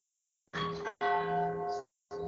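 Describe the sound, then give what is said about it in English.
Bells ring out at nine o'clock in three sustained, resonant strokes, each humming tone holding steady before it stops. No voices are heard. “It's 9 o'clock. We'll have to wait for the bells.”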